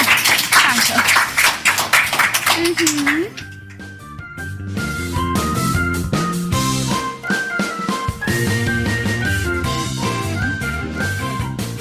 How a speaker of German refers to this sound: Vielen, vielen Dank, dass ihr am Mikro wart und nochmal einen Applaus für euch.